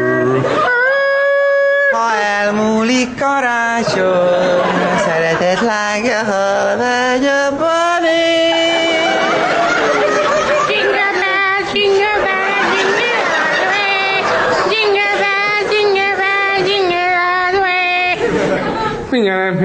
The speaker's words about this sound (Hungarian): Karácsony előtt bemenni egy bevásárló központba, ez egy rémálom, ráadásul véletlenül bekapcsolódott a telefonomon a hangfelvevő e-mail hangfájl.